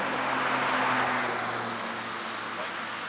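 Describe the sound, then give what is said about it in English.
A vehicle rumbles steadily past, a broad wash of engine and road noise with low droning hum that eases slightly toward the end. “Wait till this bank car is passing.”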